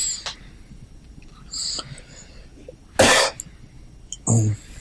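A person coughs twice, two sharp, harsh bursts about a second apart, fairly close and loud against a quiet, faintly noisy room.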